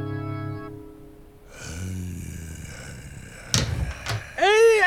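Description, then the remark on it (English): A door opens with a couple of sharp clunks, followed by a brief rising and falling squeak, after a low hum fades out at the start; the door opens onto a central area in the desert on a chilly night. “And the door opens as Stan, the zombie king, also steps out into the central area.”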